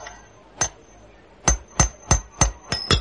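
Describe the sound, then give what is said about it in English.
A hammer drives a peg in with sharp, ringing blows: one lone strike, a short pause, then six quick, evenly spaced hits in a steady rhythm, with no voices. “Then the quicker you get the peg in, the better.”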